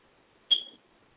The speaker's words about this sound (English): That smoke detector is key. That's key.